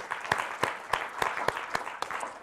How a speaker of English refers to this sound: So I just want to clap my hands for all of you.